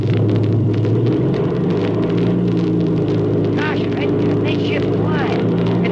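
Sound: propeller plane engine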